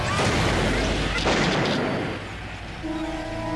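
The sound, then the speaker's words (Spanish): A single pistol shot, fired by an attacker at a woman at her home, cracks out over a dense, rumbling background, its sharp report decaying into a noisy tail before a low steady hum takes over. “Finalmente, su agresor sacó una pistola y disparó contra ella.”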